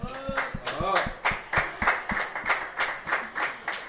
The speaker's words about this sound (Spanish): Así es, un aplauso,